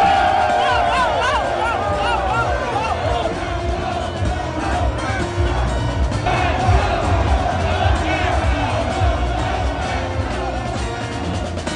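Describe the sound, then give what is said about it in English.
Green Bay Packers fans at an away stadium roar and chant "Go Pack Go" together, a dense, sustained wall of voices with rising shouts and whoops that stays loud throughout, with no clear individual speech. “Love to hear the Go Pack Go chants at any visiting stadium, right?”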